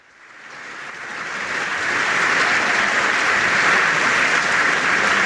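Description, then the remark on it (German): A large crowd in the Swiss parliament (Bundeshaus) bursts into a standing ovation for Pascal Gouchepin's farewell after 11 years as Federal Councillor; the applause swells over the first second or two, then holds as a dense, steady roar of clapping with no voices standing out. “Und das Parlament hat der Pascal Gouchepin stehend mit Applaus verabschiedet.”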